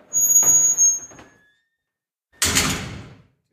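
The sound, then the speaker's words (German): A heavy metal jail cell door in a prison scrapes and squeals as it swings, followed by a pause, then a loud, resonant clang as it slams shut and rings out briefly. “Mach nochmal die Tür richtig schön zu, das hört man so schön.”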